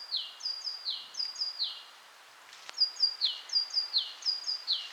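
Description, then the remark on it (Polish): Several great tits sing bright, repeated two-note phrases in a steady rhythm in a forest, the birds overlapping, with a short lull midway before the cheerful song resumes. “Śpiewy sikorobogatki w tle, i to zresztą nie jednej, takie wesołe, rytmiczne, powtarzane.”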